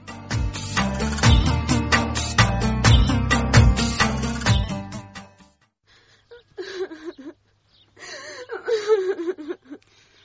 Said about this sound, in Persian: دخترم بس است، دگه گریان نکن، از گریان کدن چیزی جور نمیشه.